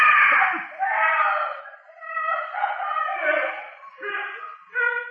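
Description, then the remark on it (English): A man yells and screams desperately for help, long strained cries broken by brief gasps, loud with nothing else audible around him. “Somebody's calling for help. Yes, I hear them.”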